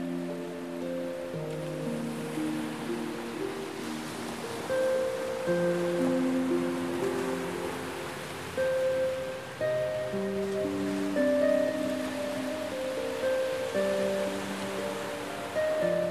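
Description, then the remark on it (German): Ocean waves wash and splash against black rocks framing a beach on Lanzarote in a steady, continuous surge, moderately loud, with soft sustained tones humming along underneath and no voices. “Die Wellen schlagen sprudelnd dagegen, als würde das Meer fröhlich spielen und das Leben mit jeder Welle zelebrieren.”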